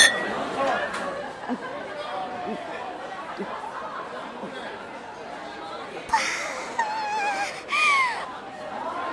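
Beer glasses clink together in a toast, two bright ringing knocks near the end, over steady background chatter and murmuring from a lively crowd.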